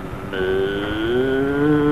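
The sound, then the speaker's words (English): A cow lets out a long, drawn-out moo that swells slightly in pitch and holds steady for well over a second, loud with no talking over it. “Get away from that cow. Is that a cow?”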